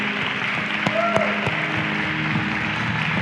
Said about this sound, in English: Clap our hands and warm up a little bit.